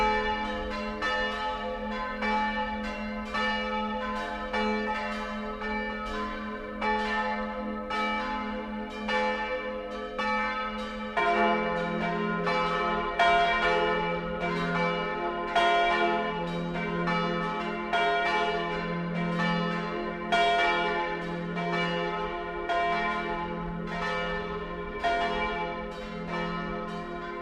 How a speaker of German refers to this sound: Die Glocken von Terfins. Sie führen uns zu einem anderen Hausvater. Das kleine Dorf liegt rund 15 Kilometer nordöstlich von Hall auf einer schmalen Terrasse hoch über dem Inn.